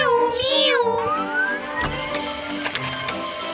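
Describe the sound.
High, wavering kitten meows sound up close at the start, then give way to a rising squeak and a busy, rhythmic mechanical clatter that continues to the end.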